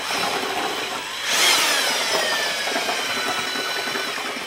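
A power paddle mixer, used by a clay specialist of the Deutsche Stiftung Denkmalschutz, churns thick clay plaster for the interior of a 250-year-old half-timbered house in Ahrweiler's old town, with a steady, gritty motor whir that surges louder for a moment, then drones on with a high whine. No one speaks.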